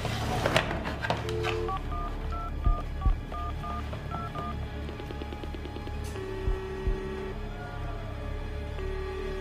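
A desk telephone being dialed, a quick run of short paired beeps sounding clearly, with a low hum and background noise underneath and a few clunks of handling.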